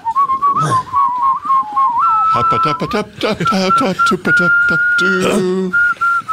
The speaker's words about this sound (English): We're in the middle of whistling. What's up with you? Oh, you guys are really good whistlers, too, huh?